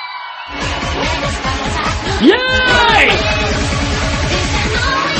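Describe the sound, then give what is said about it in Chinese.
A loud crowd at a Tianshang Renjian club night yells and cheers continuously as the host calls for screams, with a rising whoop sweeping up in the middle, over a thumping club beat that starts after a brief pause. “下面的帅哥美女投入你所有的热情，一起来感受最牛逼的音乐，有没有最牛逼的尖叫声？”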